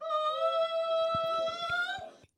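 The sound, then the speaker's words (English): A contestant at the fifth annual European Gull Screeching Championship, which drew 60 seagull sound-alikes from 14 countries, imitates a seagull with a sustained, loud, nasal screech that holds a steady high pitch and wavers slightly, while faint rhythmic thumps sound underneath toward the end. “This was the fifth annual European Gull Screeching Championship, attracting 60 seagull sound-alikes from 14 countries.”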